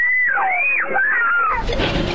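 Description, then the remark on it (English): Albuquerque middle schoolers scream inside a school bus without seatbelts as a car crashes into it in 2022: high, wavering shrieks rise and fall for over a second, then a loud burst of harsh, rattling noise takes over. “You can hear their frightened screams.”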